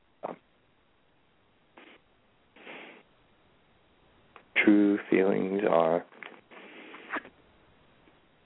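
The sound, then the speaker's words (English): A deck of reading cards being shuffled for a card reading in a few short, soft papery bursts with pauses between them, followed by a person speaking briefly, then more quiet shuffling. “And then I will shuffle it and then tell me when to stop. I'm starting to shuffle for your reading right now.”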